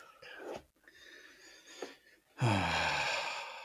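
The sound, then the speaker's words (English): A drawn-out yawn: a couple of breathy inhales, then a loud voiced exhale whose pitch slides downward and trails off, with no talking. “Oh, man, I'm yawning so much.”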